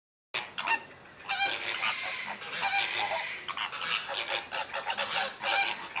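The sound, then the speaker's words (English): A dense chorus of goose-like honks and squawks from many birds at a bird park, calling continuously and overlapping, with no speech. “Our next stop, World of Birds. Now here, there's over 3,000 birds, small animals, and monkeys.”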